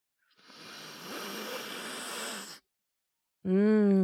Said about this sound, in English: don't forget to close that one side of your nostril. And you just start at one end and sniff it in